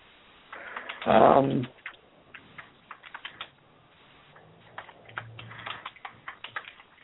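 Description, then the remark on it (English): Irregular bursts of computer keyboard typing, quick light clicks pattering at a moderate level, with one brief louder rustling thump near the start and no voices. “Okay, I hear you typing away.”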